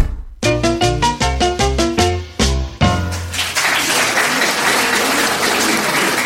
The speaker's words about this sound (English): That round of applause.